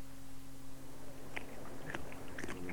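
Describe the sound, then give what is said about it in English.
Quiet, rapid crunching and nibbling of rabbits eating their lunch, with sharp little bites repeating irregularly over a low steady hum. “Hello, rabbits. Do they ever stop eating?”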